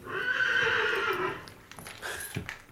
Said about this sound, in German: Drüben in der Reihe hat das dritte Pferd gewiehert.